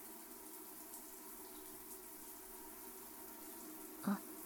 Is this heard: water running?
yes